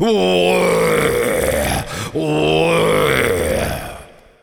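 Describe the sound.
A human voice imitates a stag's roar: two long, loud, guttural bellows with strong harmonics, each lasting nearly two seconds, separated by a brief breath.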